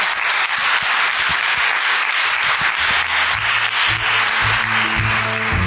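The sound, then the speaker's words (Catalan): A crowd at a public event in Sant Cugat applauds steadily, a dense wash of many hands clapping at an even loudness throughout, with faint low tones from a voice or music peeking through in the second half. “Vinga, gràcies. Un aplaudiment.”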